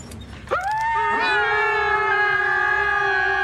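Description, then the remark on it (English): A group of young, pre-voice-change boys whine together in high, drawn-out tones, set off when they try to interact with a human called Jono. Several voices rise in after a brief moment and hold a loud, steady, overlapping wail to the end, with no talking. “And when they try and, like, interact with him, he kicks off this group whimpering.”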